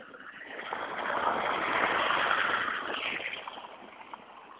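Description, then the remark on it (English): A car approaches and passes on a narrow road lined with parked cars, in light snow, splashing ice-cold water; its broad engine and tire rumble swells to a peak midway and then eases off, with no voices present. “There comes one.”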